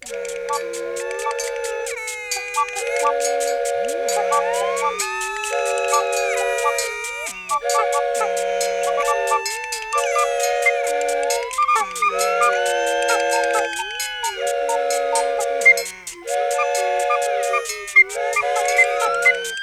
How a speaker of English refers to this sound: Hey, I have this police officer friend of mine said he could play a song on his electric siren. Okay, here we go.